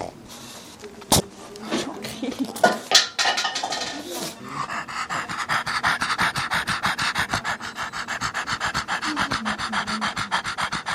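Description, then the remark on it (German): A dog pants rapidly and heavily, with raspy, wheezing breaths in a steady rhythm, struggling for air as it resists and gets agitated while an infusion is being placed; a few sharp clatters and shuffling sounds come early on before the panting settles in. “Je mehr sich der Rocky wehrt und aufregt, desto mehr fährt er an von hecheln und röcheln.”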